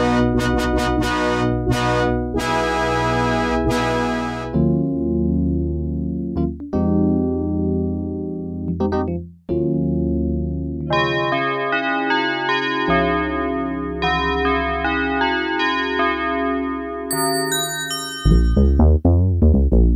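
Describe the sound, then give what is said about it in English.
A run of Yamaha DX7 synthesizer patches plays with no talking: glassy, bell-like chimes, then sustained layered chords, a bright melodic line and a few punchy low notes at the end. “These sounds come from the same device, the Yamaha DX7 synthesizer, one of the most important keyboards ever.”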